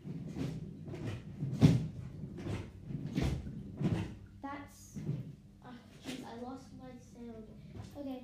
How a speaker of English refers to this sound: That, hopefully you got, that was a sort sound of a drawer opening.